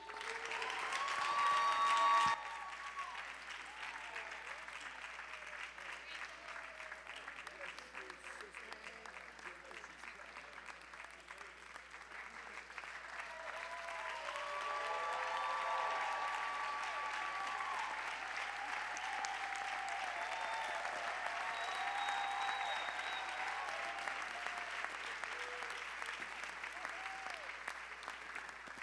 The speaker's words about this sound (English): Give one more round of applause for our Hope Corps graduates. Congratulations.